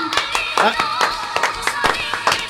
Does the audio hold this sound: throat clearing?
no